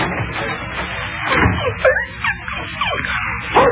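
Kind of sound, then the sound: animal, dog whimpering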